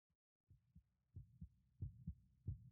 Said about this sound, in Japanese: 今も心臓がドキドキしてます。ほら、胸触ってみてください。